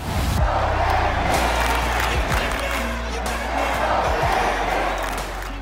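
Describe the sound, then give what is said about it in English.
A large crowd of Yankee fans at Yankee Stadium roars and cheers continuously, a loud, dense wash of many voices with rising shouts and chant-like yells throughout. “they came to Yankee Stadium, they heard Yankee fans cheering, and they're like, I like the sound of this.”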